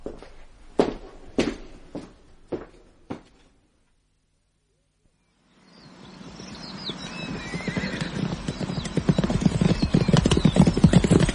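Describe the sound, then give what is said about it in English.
Five sharp, evenly spaced clip-clops from the hooves of Carnaby's horse ring out at a slow walking pace, then silence, followed by a steadily louder wash of busy noise with high, squealing tones. “Whose horse is that?”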